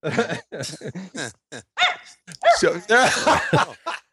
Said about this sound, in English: Yeah, can you hear the dogs barking? Yeah. Are you at the dog park now? No, I'm just kind of wandering around my block. One of my neighbors is walking her dog.